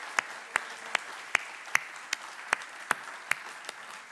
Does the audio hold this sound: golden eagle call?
no